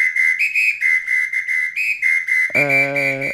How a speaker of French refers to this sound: Sifflet, il y a un match ce soir.